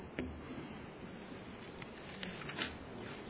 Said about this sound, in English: The pleasant sound of rain. I just figured I'll keep preaching until it stops raining.